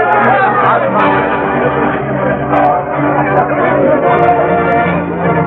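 A crowd celebrating a new sheriff's election victory chatters loudly in a dense, steady babble of overlapping voices, with no single voice standing out, keeping up a lively hubbub for the whole stretch.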